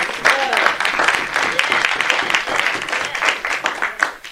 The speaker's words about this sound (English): Give them a hand clap of praise. Amen.